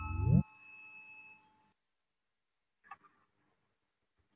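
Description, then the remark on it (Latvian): A parliamentary voting bell chimes once with a steady electronic tone that holds for about a second and a half before stopping, calling a vote on proposal 17. A few faint clicks follow; otherwise it is quiet. “Lūdzu, zvanu balsosim par 17.”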